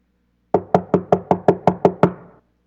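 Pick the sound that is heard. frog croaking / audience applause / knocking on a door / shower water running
knocking on a door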